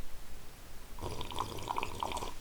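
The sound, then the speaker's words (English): A sip of tea: after a second of near silence, a steady slurping draw of liquid lasts about a second and a half, with bubbly, gurgling bursts and no talking. “That was a good tea sip.”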